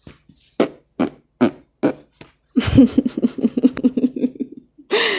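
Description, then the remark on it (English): Several short, squelchy armpit fart noises pop out one after another, then a longer sputtering, buzzy run of them, ending with one more quick burst, fairly loud. “You know, I can still make those fart noises with my armpit.”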